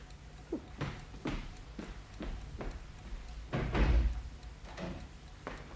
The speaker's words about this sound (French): Il frappa tranquillement à la porte.